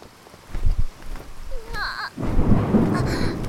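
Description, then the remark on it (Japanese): Low thunder rumbles roll through at first, then a dense, steady, loud roar of heavy rain from a strong storm takes over, with brief voice-like tones rising over the storm. “嵐が強すぎて。”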